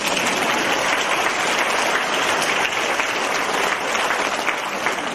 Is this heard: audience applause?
yes